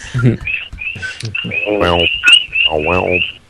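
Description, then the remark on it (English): A steady chorus of frogs croaking in Hawaii in repeated, chirpy pulses runs throughout, fairly loud, while people talk over it in the foreground. “Well, that sounds like I dig like the fucking frogs in the background wherever.”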